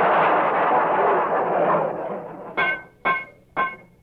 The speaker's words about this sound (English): Why is that radiator knocking so loud? Well, we're burning hard coal around here.